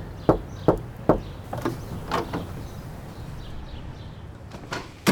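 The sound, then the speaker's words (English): Three firm, evenly spaced knocks on the wooden front door of the building where Stephen and Harriet Myers lived, reached by eight front steps, followed by softer scattered thumps and faint shuffling. “when Stephen and Harriet Myers lived in this building with their four children, that freedom seekers would walk up the eight front steps and knock on that front door, and they would be welcomed in as guests in this household.”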